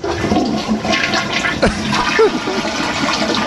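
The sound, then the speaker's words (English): A toilet flushes, a loud, steady rush of swirling water with gurgles running through the whole few seconds. “Thank God our water pressure is amazing, and then he went right down.”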